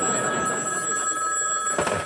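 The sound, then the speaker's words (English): A newly installed telephone's bell rings steadily and loudly, a sustained metallic trill filling the whole short stretch with no talking over it. “Well, you've got your phone. As my mother would say, may your first call be from the sweepstakes.”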